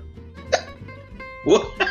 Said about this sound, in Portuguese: Tá com soluço. Fui falar e daí veio soluço.